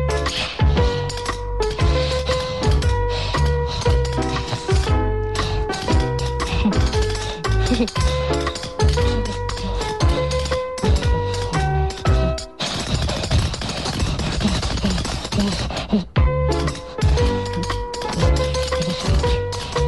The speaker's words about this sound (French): Je vais danser la claquette. Tu vas danser la claquette? Ben, vas-y tout de suite, on te regarde.